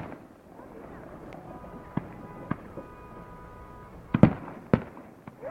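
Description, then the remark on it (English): Fireworks explode to celebrate a victory at a camp, in a string of sharp, irregular bangs over a steady murmuring background, starting with scattered pops and building to a louder cluster of blasts near the end. “And we'll just play this celebration of fireworks of the victory for just a second that it was played at the No Doppel camp.”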